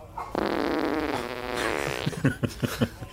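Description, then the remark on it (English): A long, drawn-out fart with a buzzy, wavering pitch, trailing off into four or five short sputtering bursts at the end. No one speaks over it. “If Usador can conjure tiny lightning for electricity, he can certainly conjure some gas.”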